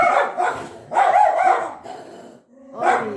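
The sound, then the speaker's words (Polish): Two dogs sitting by a couch bark loudly and close by in several bursts, a cluster of quick barks, a brief pause, then another yappy outburst, with no voices present. “Proszę nam wybaczyć, ale to jest normalne zachowanie psów, które siedzą przy kanapie, gdzie siedzą dwie ukochane mamo, siostry.”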